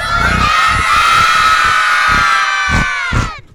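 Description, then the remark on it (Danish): A crowd of voices shouts together after a count of one, two, three, calling for Santa Claus in one loud, sustained unison yell, high-pitched like many children calling out at once, with a few thumps underneath before it trails off. “Prøv at råbe på julemanden.”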